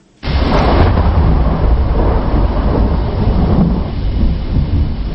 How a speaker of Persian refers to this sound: طوفان نیرومند موسوم به تالاس به مناطق مرکزی و غربی ژاپن رسیده است. رسانه های محلی این کشور می گویند این طوفان که با باران های شدید یکجاست تلفات جانی و مالی را به امراه داشته است.